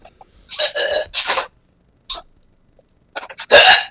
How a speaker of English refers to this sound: Excuse me. What did you just do? Did you just burp? Or was that a fart? What? Was that a burp or a fart? Ew. It was a hiccup. It was like a hick burp thing.